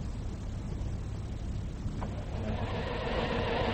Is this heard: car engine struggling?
yes